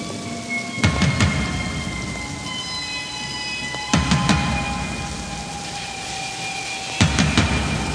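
Steady heavy rain pours throughout, with loud thunder-like booms crashing roughly every three seconds over faint sustained eerie tones, like a storm intro to a song. No one speaks.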